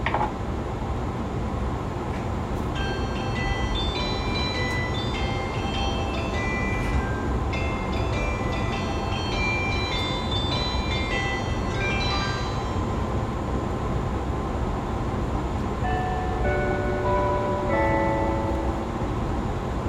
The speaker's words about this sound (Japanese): 時間がございますのでもう一度流します。もう一度4種類のチャイムを1回ずつ流します。